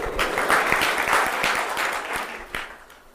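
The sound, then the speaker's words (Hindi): An audience claps in a steady burst of many overlapping hand claps, loud and dense throughout, with sharp individual claps standing out before it thins slightly at the end. “जय हरि बोल, तालियां.”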